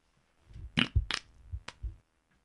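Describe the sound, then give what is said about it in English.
A sputtering fart made of several short low, rumbling bursts broken by sharp, raspy pops, lasting about a second and a half with no talking. “I've got to fart, see if you can hear this, baby.”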